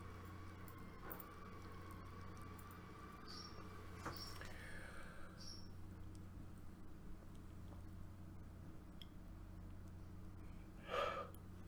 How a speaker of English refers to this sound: Yeah, that was quite a strong yawn, but it didn't complete. I don't really like that because it's almost as though there's a block of oxygen trying to get to the brain.